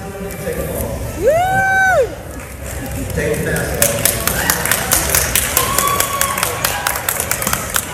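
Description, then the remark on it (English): A crowd in an airport, waiting for their flight, cheers and claps at an announcement that masks no longer have to be worn inside the airport: a rising-and-falling whoop early on, then a long burst of dense, sharp applause with scattered shouts and chatter mixed in. “People cheering and clapping because they don't have to wear their masks inside the airport any longer as they wait and get ready for their flight.”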